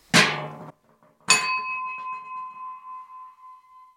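A real crab bell, a hand bell given by Purple Strawberry, clangs loudly twice, then its bright metallic tone rings on with a slow, wavering decay. No one speaks.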